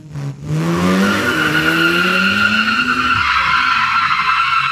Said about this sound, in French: Et ils ont aussi lancé un générateur d'effets sonores. Ça marche beaucoup moins bien, beaucoup moins bien. J'ai demandé, par exemple, une voiture qui s'arrête, qui freine super fort Attendez, on va écouter ça.